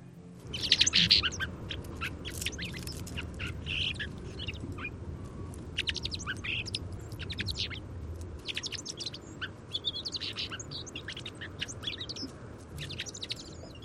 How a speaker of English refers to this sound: So let's go ahead and try the fox sparrow recording here again. Here we go. I'll try to make it a little louder.